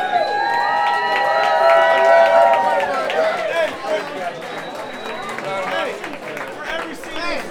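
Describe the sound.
A crowd cheers and whoops loudly, with many overlapping shouting voices rising together and a scatter of clapping, then the noise settles into a steady, slightly softer roar of cheers and applause.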